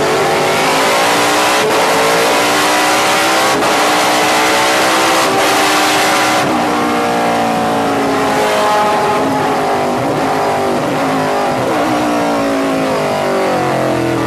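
A loud race car engine on a track screams up through several quick gear shifts, its pitch climbing and dropping in waves, then settles into a steadier, lower drone with no voices.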